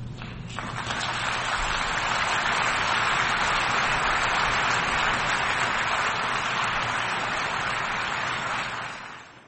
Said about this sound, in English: A round of applause there for U.S. President Joe Biden speaking at the United Nations General Assembly in New York.